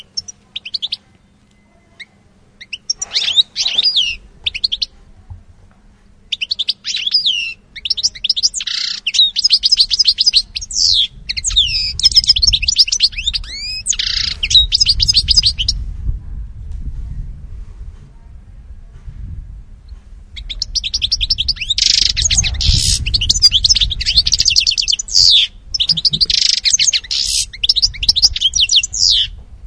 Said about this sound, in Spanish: Pues como bien han acertado, bueno, nos han indicado algunos oyentes, es el jilguero. Es un ave muy, muy común